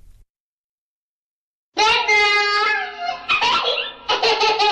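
After nearly two seconds of silence, an early-sixties twist pop record kicks in abruptly and loudly, opening with bright, high, childlike vocal sounds over the music.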